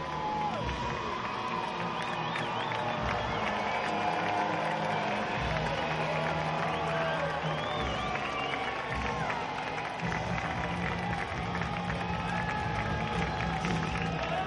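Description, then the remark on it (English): A large stadium crowd at a baseball game roars and cheers continuously, a dense, steady wash of many voices with shouts and whistles rising above it, loud throughout with no pauses. “The crowd, as you would expect, is rising to the occasion.”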